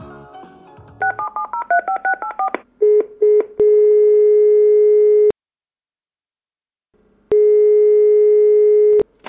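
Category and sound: signal or alarm, telephone busy signal tone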